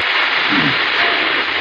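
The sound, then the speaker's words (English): Loud, steady radio static from a radio being tuned to a morning show fills the whole stretch, a dense hiss with a brief low warble drifting through midway, as if the dial is passing between stations. No voices. “Well, static.”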